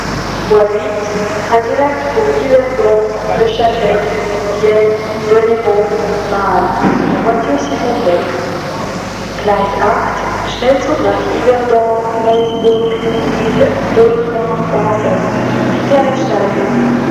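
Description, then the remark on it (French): A train pulls into Brest station with a steady low rumble and a brief high-pitched brake squeal, while a continuous murmur of voices carries through the whole scene. “Il descend du train avec sa petite valise et suit la foule qui sort de la gare.”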